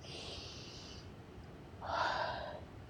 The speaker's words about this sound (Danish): Okay, stillhed! Så hvad med, at vi lige alle prøver at tage et dybt åndedræt?